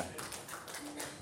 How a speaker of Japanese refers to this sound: ありがとうございます。拍手をもらうほどのことじゃないんですけども